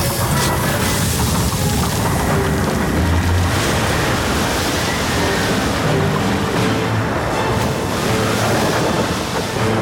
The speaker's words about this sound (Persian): مسیر سیلا باز دم می شد و آب از بند لبریز می شد. موج بزرگ آب طرف شهر روان شد.